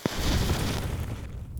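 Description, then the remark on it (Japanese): A quick scratchy strike of a match, followed by a rushing, crackling whoosh as a small bonfire of collected earwax catches and roars for about a second before tapering off. No one speaks. “集めた耳垢で焚き火でもするか。マッチで着火。”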